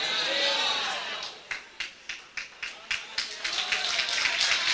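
Congregation applause for Christ: a noisy wash of cheering crowd sound gives way to steady, rhythmic clapping in unison, roughly three or four claps per second, building louder toward the end.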